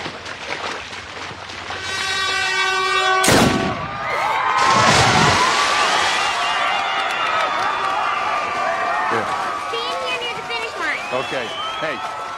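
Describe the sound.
A sharp starting-gun crack for a race rings out after a brief electronic tone, followed by another bang and a loud crowd roaring and cheering throughout, with voices shouting in the background.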